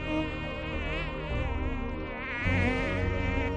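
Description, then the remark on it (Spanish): A tiger mosquito's high, whining buzz drones steadily throughout, its pitch wavering slightly as the insect hovers, with no other sounds around it. “Vamos, que el mosquito tigre no duerme ni la siesta.”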